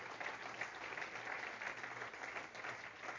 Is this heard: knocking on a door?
no